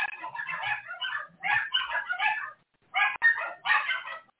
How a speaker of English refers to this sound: My dog's going off now. Hold on, people. Give me 1 minute.